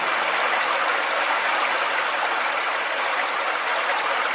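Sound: flowing river water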